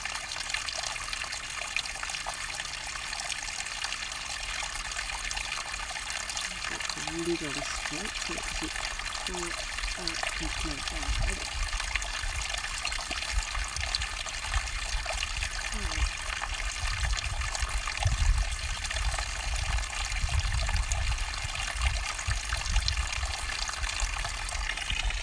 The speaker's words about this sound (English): This must be such a naughty sound for those of you in an Australian summer. This water just flowing, just pouring out of the tank.